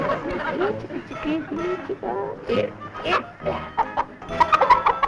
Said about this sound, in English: Well, what are we gonna do for a chicken now? Must be a stranger in this flock someplace.